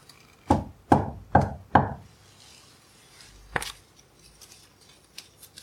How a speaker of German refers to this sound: So schlucken sie die letzten Bissen herunter und klopfen an die Tür vom Lebkuchenhaus, als seien sie die Botschafter einer Geschichte, die um Einlass in ein neues Märchen bittet.